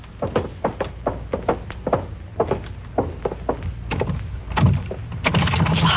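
A locked connecting door rattles against its lock in quick, uneven bursts of knocks and thumps, repeating steadily for several seconds, loud and alone with no voices.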